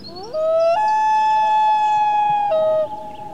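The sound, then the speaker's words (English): A common loon gives a single long, mournful wail that slides upward, holds a steady haunting tone for about two seconds, then dips briefly before fading. It sounds clear and alone, with no talking. “The call of the common loon is a symbol of the far north.”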